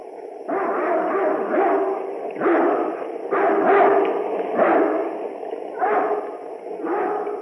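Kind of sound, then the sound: animal, dogs barking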